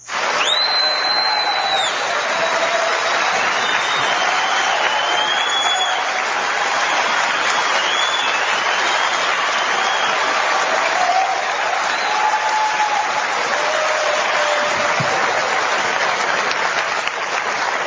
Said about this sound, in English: They don't even know what they're clapping for. Wow, it's a long clap.